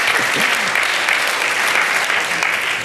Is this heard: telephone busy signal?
no